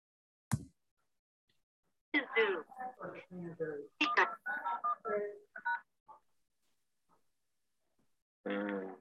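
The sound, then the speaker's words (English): A click, then a quick run of telephone keypad tones as someone dials into a meeting by phone, with short beeps in an uneven rhythm and a final longer burst of tone after a pause. The beeps are clear. “Do you want to switch to phone? Yeah, I'm going to switch to phone.”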